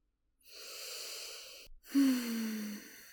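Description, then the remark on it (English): A long, deep breath drawn in through the nose, followed after a brief pause by a second airy breath with a faint low hum running through it. No talking. “Take one more deep sniff for me. Come on, breathe in with me.”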